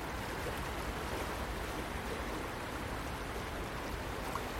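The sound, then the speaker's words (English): Fast-flowing river water rushes in a dense, unbroken roar, holding a steady loudness from start to finish with a churning, hissy texture and no voices. “Just seen a plastic bottle float past doing about 20 mile an hour.”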